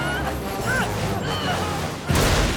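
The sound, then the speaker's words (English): A cartoon car races along with rumbling engine noise and squealing tones, then slams into something with a loud, sudden crash near the end. “But this driving and the way this car crashes, I feel it.”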